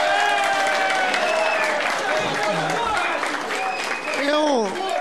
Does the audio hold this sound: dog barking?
no